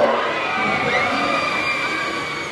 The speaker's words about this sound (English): Roller coaster riders scream at the top of their lungs on a recent Monday afternoon at Disneyland.